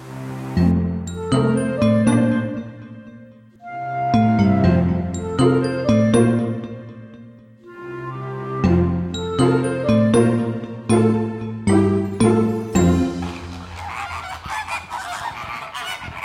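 A flock of flamingos at the flamingo entrance of Hellabrunn zoo honks continuously, loud nasal goose-like calls overlapping in rapid bursts, the chorus turning into a rougher, noisier babble toward the end.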